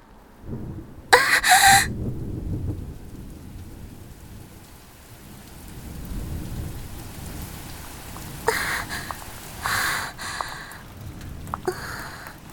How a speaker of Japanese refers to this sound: すごい雨ですね。さっきまで雲一つないお天気だったのに、夕立かしら。